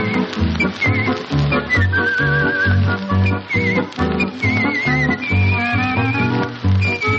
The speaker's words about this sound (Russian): Подробней о художественном свисте минут через 20.